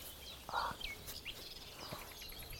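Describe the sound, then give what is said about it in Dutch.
A marsh warbler, a small brownish bird, sings faintly, a scatter of quick chirps, rolls and short trills over a quiet outdoor background with no voices. “Al die rolletjes en trillertjes, ja. Dat is de bosrietzanger.”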